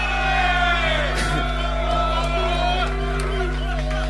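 A large crowd screams and cheers loudly and continuously for one more song, many overlapping voices whooping and yelling together with no single voice standing out, with a low steady hum underneath.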